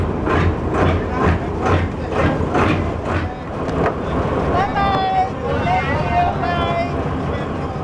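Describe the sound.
A boat carrying a family and other passengers to Kuku moving across water: a steady rush of engine and water noise with rhythmic surging pulses and wind buffeting, and faint voices or tonal calls rising briefly partway through.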